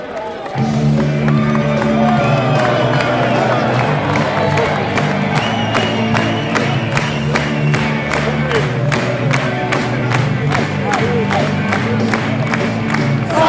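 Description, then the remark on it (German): A large crowd of visiting Borussia fans sings their club anthem together in a stadium in a Franconian city during a first-division match, in long, sustained notes, backed by loud, steady rhythmic claps or drum beats throughout, with no pauses. “Fühlt euch wie zu Hause, genießt es in unserer Stadt, genießt unser Grüner und vor allem eure Hymne.”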